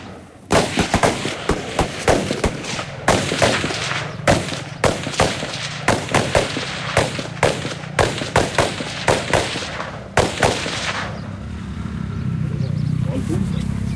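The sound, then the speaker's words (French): Sharp, loud gunshots crack out in irregular bursts for about ten seconds, some in quick clusters, as riders on patrol fire from their motorcycles; then the firing stops and a low, steady engine-like rumble carries on. “Ils tirent sur leur moto.”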